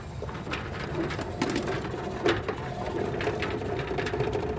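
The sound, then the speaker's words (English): A steady mechanical whir and rattle of a rotor rod air sampler, a box on a platform that collects air samples, coming down its track from the roof along the side of a building on a wet, rainy day, with irregular ratcheting clicks and a few sharper knocks, no voices. “She's showing me the machine, a device called a rotor rod that collects the air sample.”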